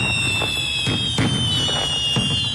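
fireworks exploding

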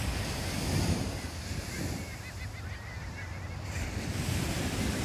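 ocean waves

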